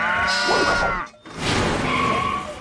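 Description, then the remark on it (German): On a farm, sheep bleat loudly in two wavering bursts split by a brief pause, with a busy mix of other farm-animal noise underneath, as sheep and pigs run up a ramp into a vehicle. “und all die anderen Schafe und Schweine liefen über die Rampe ins Innere der rollenden Einsatzzentrale.”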